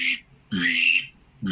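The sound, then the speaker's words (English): A pintail duck whistle imitates a drake mallard's grunt in three close, loud bursts: a short note, a longer raspy one, then another starting at the end, with brief pauses between. “It can do a mallard grunt,”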